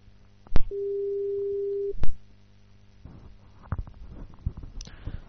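A single steady telephone ringing tone of a call being placed to the SoftBank customer center in Japan, about a second long and clearly audible, framed by two sharp clicks, then quiet rustling and handling noise.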